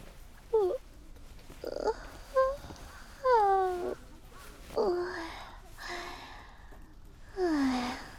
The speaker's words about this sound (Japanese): あくび、止まらないね。